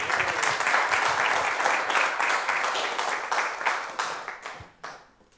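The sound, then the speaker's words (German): A church audience applauds steadily for the people to be baptized later in the service, dense overlapping claps filling the first four seconds before thinning into a few scattered claps and fading out. “Ja, das ist nochmal euer kräftiger Applaus, nehmt gerne Platz.”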